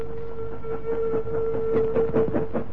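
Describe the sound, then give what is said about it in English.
A train rumbles past as it leaves a tunnel, a sustained whistle-like tone held over rhythmic, clattering bursts of wheel noise that grow slightly louder toward the end; no one speaks. “As soon as the train left the tunnel, they pushed open the door”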